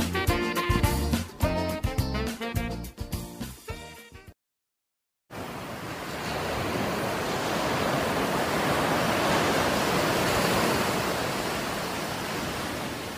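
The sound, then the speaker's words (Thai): A few seconds of music stop abruptly, and after a brief silence a steady, loud rush of breaking sea waves washes continuously over a beach, with no voices. “หาดทรายขาวน้ำทะเลใสเริ่มต้นได้ด้วยมือเรา”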